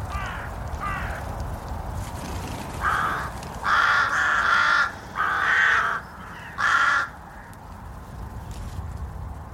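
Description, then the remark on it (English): Rooks caw in a series of harsh, raspy bursts, a few soft calls first, then louder, overlapping caws in irregular clusters over a steady low rumble, with no one speaking. “Height for a rook means safety, so that tends to be where they stay, up top.”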